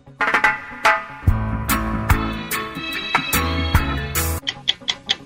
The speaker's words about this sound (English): 60 seconds on the clock in the category …. Thomas, your time begins when Paul plays the music.